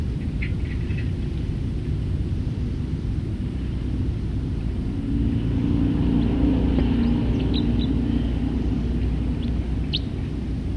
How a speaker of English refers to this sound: Stop. Start recording the same bird.